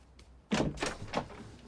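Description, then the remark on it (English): Three firm knocks on a bathroom door in the morning, somewhat unevenly spaced, rapping out over a quiet background with no voices. “He listens at the bathroom door, then raises his hand to knock.”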